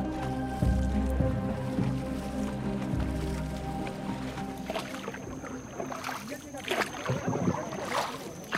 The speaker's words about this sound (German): Nur noch die Pirogen überqueren den Fluss, wie seit Hunderten von Jahren.